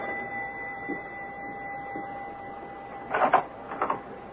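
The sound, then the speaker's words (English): A doorbell at 91 Pershing Place rings twice in quick succession, two short buzzy bursts near the end, following a stretch of low, steady humming background tone with no one talking. “Listen, the doorbell is ringing.”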